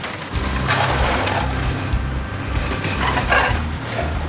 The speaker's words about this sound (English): A giant mechanical claw, like the one inside the game you always lose at in the arcade. It takes a flattened car and puts it on a conveyor belt to get ripped into pieces.